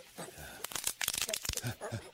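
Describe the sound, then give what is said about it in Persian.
A person's spine bones crack in a quick, irregular burst of dry crunching pops and crackles, dense in the middle and thinning toward the end, fairly loud and sharp. “نترسید آقا، صدای استخونهای ستون فقرات من بود.”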